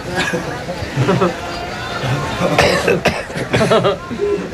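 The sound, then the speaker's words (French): Several people cough repeatedly in a busy room, sharp bursts scattered over a steady background of murmuring voices and chatter, with a few louder coughs close by. “Pourquoi on tousse ? Ça doit être le sésame ou la moutarde.”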